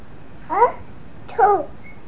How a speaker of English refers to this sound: Birds singing outside.